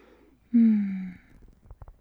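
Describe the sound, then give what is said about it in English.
A single drawn-out yawn, a loud voiced exhale that slides gently downward in pitch for about half a second, then trails off into a few faint soft clicks. “Oh, you yawned.”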